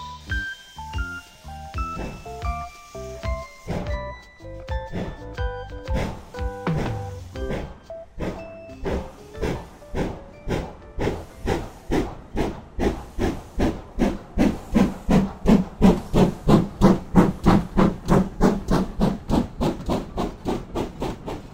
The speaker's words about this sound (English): Clickety-clack, clickety-clack, went the train down the tracks.